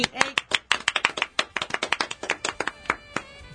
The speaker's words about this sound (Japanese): ありがとうございます。拍手。